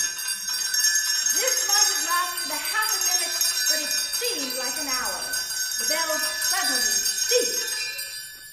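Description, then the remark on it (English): A dense, continuous clamor of many house bells rings loudly and overlapping throughout, with a bright metallic shimmer that never lets up, while a voice speaks over the din. “It swung so softly it scarcely made a sound, but soon it rang loudly, and so did every bell in the house.”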